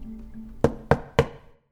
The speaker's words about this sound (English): I go to the back of the apartment where I see the door with the ducky on it. And at 3:01 precisely, a knock.